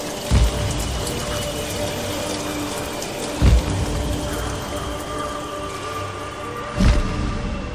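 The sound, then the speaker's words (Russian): Heavy rain pours down in a steady, dense hiss, broken by three short, louder thuds spaced about three seconds apart. No voices are heard. “Тут подул сильный-сильный ветер. Высокие деревья с корнями свалились. У низеньких деревьев верхушки сломались, и пошел очень сильный дождь.”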